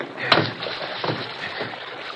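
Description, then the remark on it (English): A rubber raft, just inflated through its valve, is put into the water and slaps down with a sharp splash, followed by a smaller splash and steady sloshing and rushing water noise throughout. “All right, let's get it to the water.”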